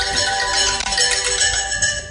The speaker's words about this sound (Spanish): Suena estupendamente ese teléfono. Suena el teléfono de Tomás.